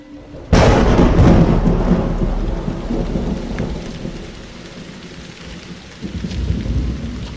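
A sudden, loud crack of thunder rolls into a long, deep rumble over steady heavy rain, with a second swell of thunder near the end. No voices, just the storm. Powerful storms over the region in the afternoon, the sky nearly black.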